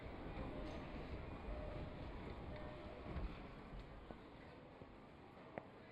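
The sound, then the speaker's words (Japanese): A train arrives at a station with a steady, loud low rumble and broad mechanical roar, punctuated by a few faint clanks and squeaks near the end. “電車着いたね。”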